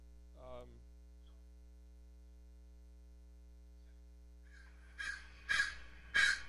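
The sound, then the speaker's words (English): Three harsh, loud crow caws in quick succession near the end, after a fainter call at the start, all over a steady electrical hum. “So the crow goes caw caw”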